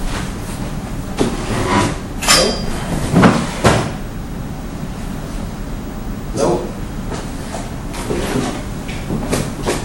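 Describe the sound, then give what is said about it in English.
Desk drawers slide open and shut several times, a series of short scraping thuds with brief pauses between them over low background rumble. “Probably got in her desk. It's probably one of those drawers. I bet you it's in that drawer.”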